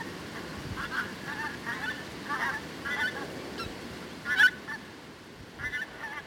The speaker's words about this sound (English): I was sitting beside the loch there, just watching skeins of geese go past.